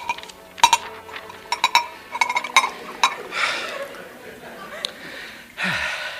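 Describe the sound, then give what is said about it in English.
Several bright glass clinks ring out in a quick, uneven cluster, followed by a soft rushing swell like cream soda being poured into a glass, with faint breathy vocal sounds. “Oh, it's marvellous what a glass of cream soda can do for one.”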